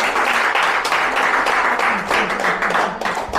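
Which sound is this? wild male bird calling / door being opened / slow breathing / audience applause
audience applause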